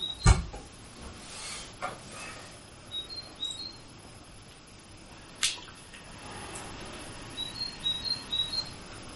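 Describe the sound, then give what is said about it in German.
Faint bird chirps come in short high-pitched clusters, scattered across a quiet background with a couple of soft knocks, and no one speaking. “Plötzlich war der Sucher verschwunden und erstmals waren die Vögel wirklich zu hören.”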